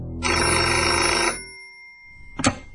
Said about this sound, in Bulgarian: Звънеца на телефона ме измъкна от тъмния кладенец на съня.